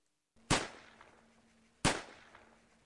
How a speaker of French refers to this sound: Trois coups de feu. Il y en a eu plus, puisqu'il y a eu entre 150 et 200 morts et 200 blessés.